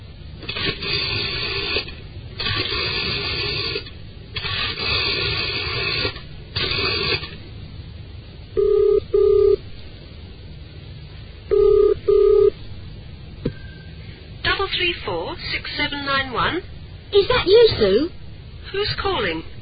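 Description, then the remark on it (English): A telephone is dialled again, redialling a number that had been engaged, with a run of rhythmic mechanical bursts, then a ringing tone sounds in two double-pulsed rings before a voice starts talking at the end. “That number's been engaged for ages. Nobody can be that popular. I wonder if her number's been changed. I think I'll try again.”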